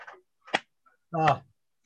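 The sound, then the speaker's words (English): A voice imitates a man sleeping out on a balcony slapping at mosquitoes: two quick, sharp smack-like bursts, then a longer voiced, grunting slap sound, all fairly soft with brief silences between. “All I'm hearing is swatting. And of course he's swatting mosquitoes.”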